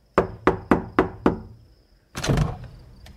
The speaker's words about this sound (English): 45 minutes later, Christina heard someone at the door.